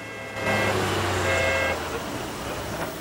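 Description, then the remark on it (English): Busy street traffic with vehicles reversing, an engine rumble and sustained horn-like tones for the first couple of seconds, then a steady wash of road noise continuing at moderate loudness. “Traffic's going backwards on a busy street.”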